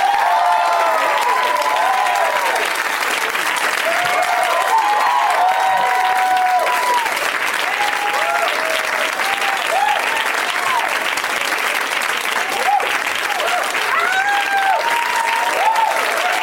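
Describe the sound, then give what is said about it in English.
Loud, sustained applause from a UCB show audience welcoming guests Sam Levine, Pat Healy, Sarah Paxton and Kristen Bell, a dense steady wash of clapping with scattered whoops and cheers rising over it, continuing without a break throughout. “Please help me in welcoming Sam Levine, Pat Healy, Sarah Paxton, and Kristen Bell.”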